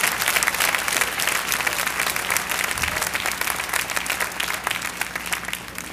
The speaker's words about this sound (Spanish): Dense ustedes un aplauso.